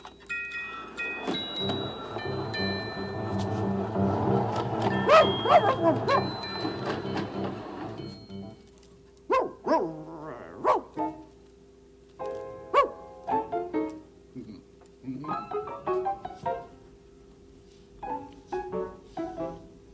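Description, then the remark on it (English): A dog, Bob Dog in the Neighborhood of Make-Believe, barks and yips in a scattered series of short, sharp bursts, following several seconds of dense, rumbling background noise with droning tones. “Like Bob Dog under there. Is that he?”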